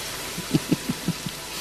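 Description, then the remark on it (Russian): Rain hisses steadily across the whole clip, with a short run of half a dozen soft, low thuds, like heavy drops striking a surface. No one speaks. “Маэстро, кажется, дождь собирается.”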